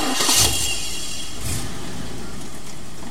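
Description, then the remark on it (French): A car engine cranks and catches with a short burst of noise, then settles into a steady, low rumble as it keeps running, a car used for drives around at night. No one speaks. “Alors la nuit, Zanza fait des tours en voiture.”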